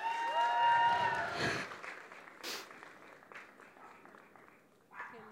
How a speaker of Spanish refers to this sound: por favor, denle un aplauso